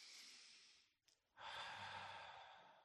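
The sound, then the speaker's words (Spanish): A long, slow, deep calming breath drawn in, a brief pause, then a full, audible exhale, fairly loud, with no talking. “Respirar, esa respiración”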